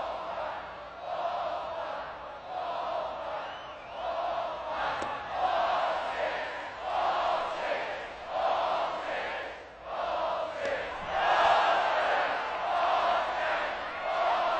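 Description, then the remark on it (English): A large college baseball crowd at Texas A&M chants in unison after a batter is walked, calling out the next ball count (ball five, ball six), loud voices rising and falling in steady rhythmic swells about once a second, like a shouted count repeated over and over. “I don't know if you guys obviously saw this, but if you walk a guy at Texas A&M, they just start chanting for the next ball.”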